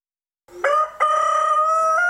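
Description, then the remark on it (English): A cockerel crows once at 5 o'clock in the morning, loud, its call opening in short rising steps before holding a long, strained harmonic note; no other sounds or voices around it. “How have you had a cockerel?”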